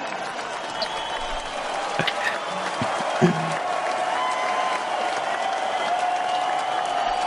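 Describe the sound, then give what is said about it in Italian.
Steady audience applause, dedicated to Carmelo, fills the whole stretch, a dense, even wash of clapping hands at a fairly loud level with a few sharper claps and faint crowd murmur mixed in. “Un applauso Carmelo, un applauso a te.”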